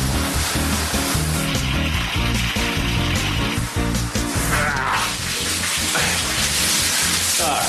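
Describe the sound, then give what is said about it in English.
Water is turned on and runs steadily at a strong, even pour, a continuous rushing hiss with no breaks, fairly loud, with a low rumbling layer underneath. “Are you ready for the water? Yeah. Yes. Turn on slow”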